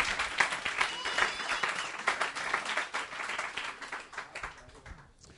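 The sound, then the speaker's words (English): An audience applauds itself steadily, dense overlapping hand claps sustaining for several seconds before thinning out near the end. “Give yourselves a clap.”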